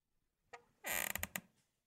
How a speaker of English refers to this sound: That chair squeak was kind of conspicuous at the end there.